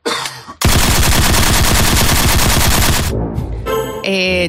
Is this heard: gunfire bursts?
yes